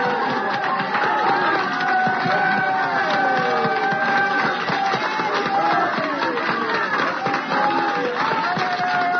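An audience claps and shouts unto God together in worship, dense steady handclaps running under a wash of raised voices that holds loud and continuous for the whole stretch.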